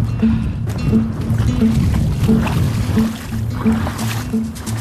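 The Suroît, a strong, well-known southwest wind, buffets the microphone with a loud, continuous low rumble and rough blustery roar that swells and eases slightly over a few seconds, with no voices.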